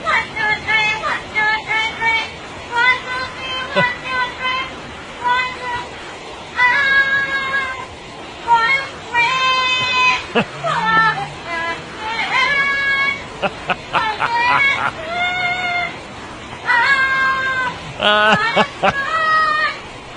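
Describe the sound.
A parrot sings a pop song in a string of bright, warbling, voice-like phrases, repeating and stalling on the same bit of melody, with a low murmur of background noise underneath.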